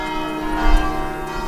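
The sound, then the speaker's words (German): Church bells of the Benedictine college of St. Anselmo on the Aventine Hill in Rome ring out steadily on a Saturday, marking the election of a new Abbot Primate; deep, sustained tones overlap into a rich, resonant wash with a slight swell in loudness midway and no voices present. “Als am Samstag auf dem römischen Hügel Aventin plötzlich die Glocken des Benediktinerkollegs St. Anselmo zu hören sind, ist klar, der älteste Mönchsorden des Abendlandes hat einen neuen Abtprimas.”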